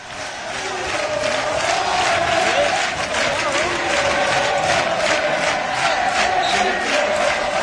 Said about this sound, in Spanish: Escuchen a la afición.